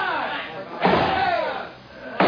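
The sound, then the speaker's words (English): Two heavy, booming impacts hit a door about a second and a half apart, like men forcing their way through, with muffled shouting voices churning underneath. “They're breaking through.”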